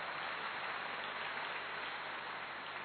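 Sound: loud applause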